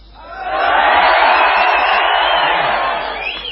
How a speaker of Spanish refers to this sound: Comprobación. vamos a gritar, nada, así nada más. Los primeros, los de abajo, adelante.